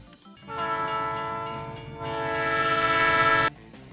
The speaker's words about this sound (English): Our train begins its eastbound journey to Detroit-Pontiac at Chicago's Union Station.